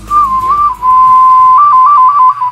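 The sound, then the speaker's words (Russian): A ceramic clay toy whistle, made locally in Russia's Pskov region, blown loud, holding a steady bright tone that warbles between two nearby pitches in quick trills, especially toward the end, with no talking. “Очень характерный звук, и каждая свистулька звучит по-своему, по-особому.”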